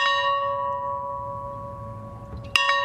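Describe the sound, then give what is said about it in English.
A church bell at the farmhouse in Plains, Georgia tolls outdoors, part of 39 tolls for late former President Jimmy Carter. One strike's ringing tone slowly fades before the next sharp strike rings out near the end, over a low, steady background rumble. “Bells at that farmhouse tolled 39 times for the 39th president.”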